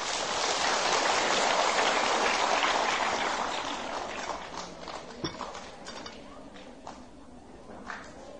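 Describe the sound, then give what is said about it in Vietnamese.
A loud round of applause from a crowd of children, a dense crackling wash of clapping that gradually thins out into scattered individual claps over several seconds. “Nếu các cháu thấy những điều mà thầy vừa nói là có thể làm được và tin nguyện làm việc đó thì hãy dành một tràng vỗ tay thật to.”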